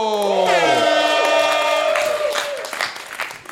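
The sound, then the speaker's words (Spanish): A crowd bursts into loud applause and cheering for the next person introduced to present, with shouts and whistles rising over steady clapping that continues throughout before thinning slightly toward the end. “Fuerte aplauso para”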